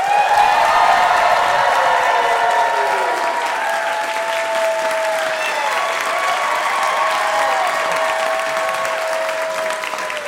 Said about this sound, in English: But they are royalty, so they expect a certain amount of pomp and circumstance, a real big cheer from the crowd when they enter the room.